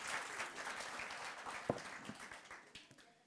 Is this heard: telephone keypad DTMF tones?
no